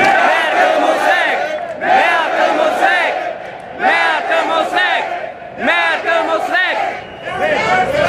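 A crowd of protesters at a rally loudly chants the slogan "Merkel muss weg" (German for "Merkel must go", aimed at Chancellor Angela Merkel) in unison, the phrase repeating about four times in a steady rhythm with brief dips between shouts.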